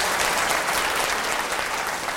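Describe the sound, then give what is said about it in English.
Steady, dense applause from an audience thanking a speaker after a talk, a continuous wash of many hands clapping at an even, fairly loud level throughout, with no voices standing out. “Help me thank Andy again for just a truly”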